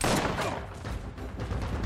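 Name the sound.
gunfire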